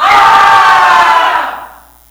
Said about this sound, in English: Boys, stand up. I want you to scream at this wall, see if you'll fall down. Go ahead, scream at it, yell at it.